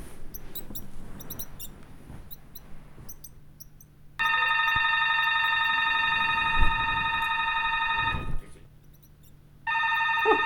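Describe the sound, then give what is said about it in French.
An electronic apartment doorbell rings in a steady, bright, buzzing tone for about four seconds, falls silent, then starts ringing again, after a quiet stretch with faint clicks and chirps. “La sonnette ne tira Jeanne de son sommeil qu'à la deuxième reprise.”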